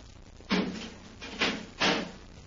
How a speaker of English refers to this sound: We can open our face plates after we open the inner door. Better close the door behind us,